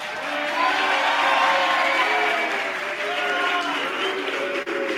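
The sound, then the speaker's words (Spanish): An audience breaks into steady applause mixed with cheering and excited voices, a dense, continuous crowd roar that holds for several seconds, applauding for Cristiano Ronaldo as a mini debate is closed. “¡Aplausos para Cristiano Ronaldo!”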